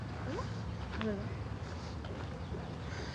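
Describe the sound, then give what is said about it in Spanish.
Bees buzz in a steady, droning hum that fills the whole stretch, with a few brief higher chirps rising over it near the start. “Ay, Dios, cuántas abejas.”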